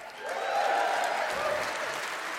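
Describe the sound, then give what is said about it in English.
A short burst of steady applause, many hands clapping in a dense, even patter that swells slightly and holds at a moderate level for a couple of seconds. “Don't clap till we have a verdict.”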